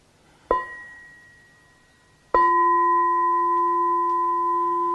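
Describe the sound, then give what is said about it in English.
A bell is struck twice: the first ring decays slowly, then a louder second strike sustains a steady, bright metallic tone with clear harmonics until the end. No one speaks. “Maybe if you could just, this is what we did last year, if you just ring the bell and I'm going into something slightly different.”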